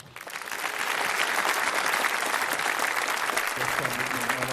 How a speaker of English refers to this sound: Please welcome with a huge round of applause,